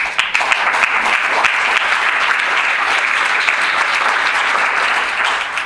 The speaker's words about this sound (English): You're clapping now. Wait till you see what that means, okay?